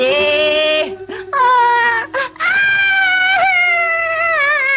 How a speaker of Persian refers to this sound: آره آره گریه کن گریه کن، یالا یالا. خیلی خوب بس دیگه، چقدر سر صدا میکنی؟